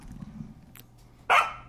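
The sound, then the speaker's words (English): A single sharp, high-pitched bark from an Australian cattle dog bursts out loud near the end, following a stretch of quiet low background rumble. “This is a howling and shrieking Australian cattle dog.”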